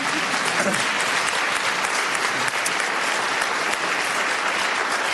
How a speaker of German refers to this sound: Und das, danke für den Applaus.